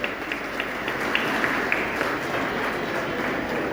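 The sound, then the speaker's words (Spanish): Sustained audience applause for a ballet and the choir Bella Cantá after their show, a dense, steady wash of many hands clapping at a fairly even loudness, with a few sharper individual claps standing out across the few seconds. “felicitaciones y un gran aplauso para ustedes y para el coro también, Bella Cantá, que han hecho un gran espectáculo.”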